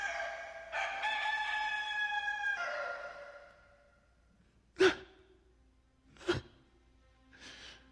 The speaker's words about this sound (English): The rooster, just as he said, just as it does every day, I think, only to remind me how quickly I turned away.